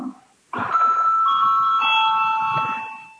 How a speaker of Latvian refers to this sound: Lūdzu zvanu.